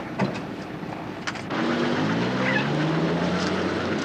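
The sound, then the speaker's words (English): A heavy armored truck engine kicks in after a moment of background noise, then rumbles and revs steadily and loudly as the truck rolls away along a road, with no voices. “The pickup truck pulls to the side as the armored truck rolls away.”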